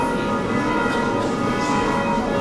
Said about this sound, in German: Die Glocken im hohen Spitzturm vor der Kirche luden am Samstagvormittag zu einem besonderen Gottesdienst in die Orschowa römisch-katholische Kirche ein.